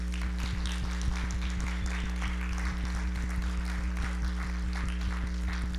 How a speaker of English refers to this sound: So welcome her. Praise the Lord. I want us to stand, and I want us to give Jesus a big clap offering.